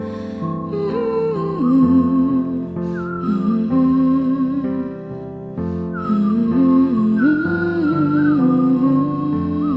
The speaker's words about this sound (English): Oh, and I did the whistling.